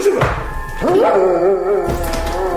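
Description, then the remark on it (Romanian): A restless dog, being chased off by a villager as he goes into his house, barks, starting with a couple of sharp yelps that stretch into a long, wavering, whining cry. No one speaks. “cojanul își îndeasă căciula peste urechi, tușește ușor din obișnuință și, gonind câinele ce nu-i de pace, intră în casă.”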